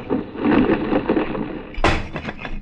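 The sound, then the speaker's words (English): A heavy rumbling clatter builds, then a sudden loud crash as a large marble fragment of ancient Greece smashes down at the Acropolis, its sharp impact ringing out briefly before fading into scattered, rattling debris. “A large marble fragment of ancient Greece.”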